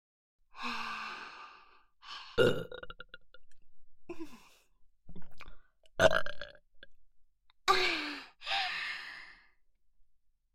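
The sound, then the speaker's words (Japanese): A run of roughly eight close, fairly loud burps, some long and drawn out, others short and abrupt, spaced unevenly with breathy exhales between them. “もっと臭いゲップたくさんかけてあげるから”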